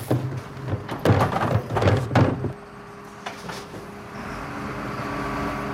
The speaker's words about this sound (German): Ach so, dann haben wir nur das Geräusch von dem Müllauto gehört.